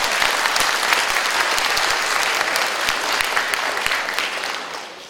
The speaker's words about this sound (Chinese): 唱得好不好？给上帝给掌声好吗？